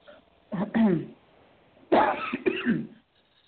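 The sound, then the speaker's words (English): Two fairly loud bouts of wet, phlegmy coughing up phlegm with throat clearing, separated by a short pause, followed by quiet. “I'm coughing up the phlegm.”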